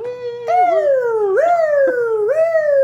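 emergency vehicle siren

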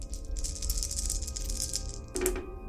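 dice being rolled

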